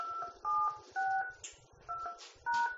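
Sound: telephone keypad DTMF tones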